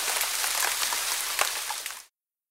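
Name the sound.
rain falling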